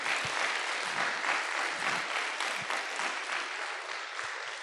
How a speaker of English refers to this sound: Absolutely fantastic. Please give everyone who performed today another round of applause.